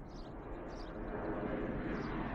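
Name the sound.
plane flying overhead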